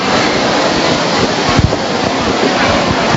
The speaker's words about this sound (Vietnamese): Và bây giờ thì chúng ta cũng phải chấp nhận là mưa to được phải không? Mưa to chưa?